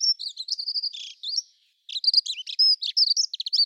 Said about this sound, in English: A dunnock, they'll start singing maybe late February time, they'll keep on singing through to about June. And so, yes, when you're in a garden environment and you've got a bird that is singing in this fast shuttling song, then you've got a dunnock.